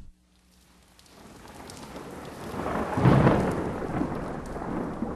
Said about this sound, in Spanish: Cuando vemos un relámpago o un rayo allá muy lejos, siempre pasan algunos segundos antes de que oigamos el trueno.